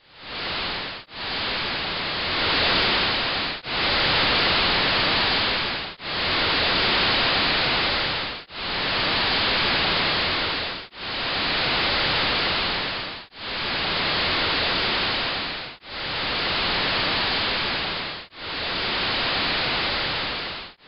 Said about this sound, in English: We have another recording here. This is a signal from an Ecuadorian volcano called Cotopaxi. Let's listen to that.